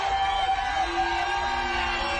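A large crowd cheers loudly and continuously as a vote for a contestant to win concert tickets, a dense wash of shouts, whoops and yells sustained the whole time without letting up.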